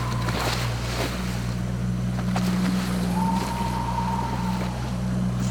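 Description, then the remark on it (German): Steady wind and rushing ocean water on a moving boat, over a constant low engine drone, with a brief faint whistling tone partway through and no voices. “wie man den Wind hört und den Ozean.”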